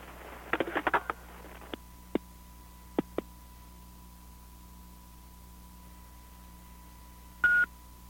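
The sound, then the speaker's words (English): A cluster of quick clicks and beeps, then several short keypad tones pressed one at a time, ending in a longer tone, over a steady low line hum with no voices. “Okay, let me call you back on a better phone.”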